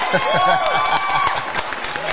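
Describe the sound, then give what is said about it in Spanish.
An audience claps and cheers in a dense, steady burst of applause, with voices talking over the crowd noise throughout. “Oye, un aplauso ahí.”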